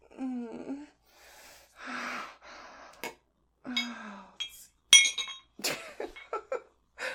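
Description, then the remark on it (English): Glass clinks sharply a few times at irregular moments, bright, between a person's breathy gasps and moans. “Sound of glass.”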